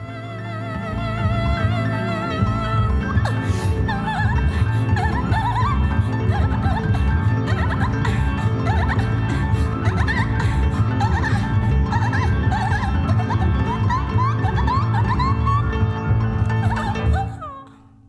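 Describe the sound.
Near the end of an album's first song, a singer makes rapid, high squeaky chirps and squeals in imitation of a dolphin, repeated throughout over a loud, dense band backing until it cuts off near the end.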